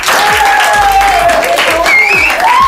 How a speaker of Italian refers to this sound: Senti che tifo da stadio, questo gruppo delle... Gruppo delle stelle, avete capito bene? Sono questi bambini, anche ragazzini, alcuni sono un po' più grandi, che hanno fatto le pubblicità con l'aiuto dei Dinamici, che ringrazio ufficialmente.